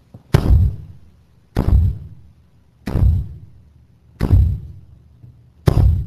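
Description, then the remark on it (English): A big staff is struck against a floor five times, each a heavy, booming thud with a short resonant tail, spaced about a second and a quarter apart in an otherwise quiet space. “He had this big staff in his hand, and he thumped it 5 times.”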